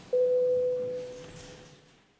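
A single steady electronic tone signalling a vote in parliament on a bill amendment, a clean mid-pitched beep that starts abruptly and holds for about two seconds while slowly fading, with faint room noise beneath and no speech.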